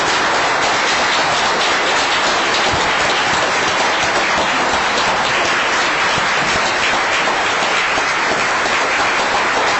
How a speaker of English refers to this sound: So can we give them a round of applause and have the athletes come up?